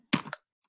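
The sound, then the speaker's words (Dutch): A single sharp, clicky tick from a metronome switched on for practising a riff, a brief bright clatter lasting under half a second, followed by silence. No voices are heard. “Kunnen jullie deze metronoom horen?”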